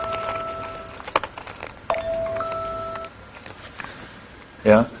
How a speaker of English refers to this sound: Oh, the timer.